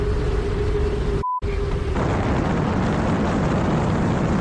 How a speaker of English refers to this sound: The footage is really dramatic. It shows Trevor Jacob springing from a small aircraft over mountainous terrain in California.